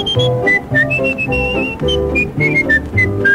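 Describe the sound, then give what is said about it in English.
A person whistles a bright, wavering tune, the pitch stepping up and down in short phrases, clear and close over a steady musical accompaniment with no talking. “Just wiggle your finger, put it on your nose, grab your ear and whistle.”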